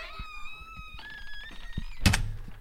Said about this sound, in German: Sie drängte Hühnerschreck hinaus und schloss die Tür hinter ihm.